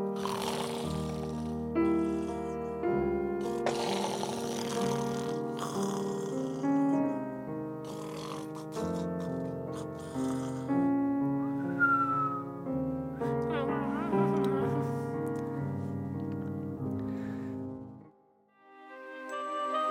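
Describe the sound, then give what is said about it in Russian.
Loud, rasping snores rise and fall over about twenty seconds, broken by thin, sliding whistles on the out-breath, likely voiced by someone mimicking a sleeper, then a brief pause near the end. “Спят в кроватях Пауль и Петер, слышен только храп и свист.”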